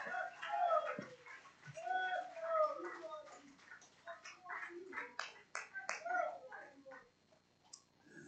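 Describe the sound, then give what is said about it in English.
A group claps their hands to the Lord in a steady, dense burst of applause, with voices calling out over it at first before the clapping carries on mostly alone. “Clap your hands unto the Lord in Jesus' name.”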